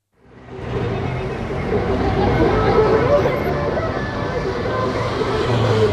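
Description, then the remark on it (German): Steady street traffic in Kabul, Afghanistan, with a distorted, blaring loudspeaker voice rising over the engine noise throughout from a car covered in election posters, playing election slogans; the voice's words can't be made out. “aus deren scheppernden Lautsprechern Wahlslogans ertönen”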